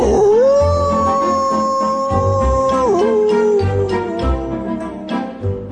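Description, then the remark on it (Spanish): A wolf howls in one long, sustained, wavering call that rises, holds steady, then dips and trails off, heard clearly over a soft rhythmic musical backdrop with light tinkling accents. “por allí solía pasar un lobo malvado y peligroso, llamado Feroz, que amenazaba constantemente con comérselos”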